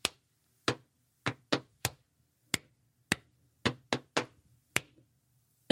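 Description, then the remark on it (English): A rhythmic pattern of sharp hand claps and pats on the knees, about a dozen crisp hits grouped in singles and quick pairs with short pauses between, and no talking. “Listen to the sounds that you can make as you jump, or clap, or pat your knee.”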